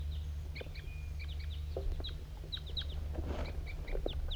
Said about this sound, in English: Here comes a wild crossbill.